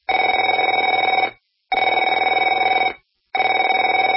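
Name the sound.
telephone ringing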